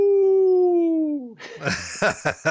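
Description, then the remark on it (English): A person imitates a hound dog howl: one long, steady, tonal wail that slowly falls in pitch over about a second, then breaks into rough, noisy yelping bursts. Loud. “You got to close us out with your best old hound dog howl.”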